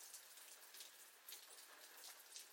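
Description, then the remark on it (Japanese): Steady rain falls continuously, a dense hiss of drops with faint patters and brief swells, heard alone with no voices. “うん、でもこの降り方だとなかなか止まないと思うわよ。”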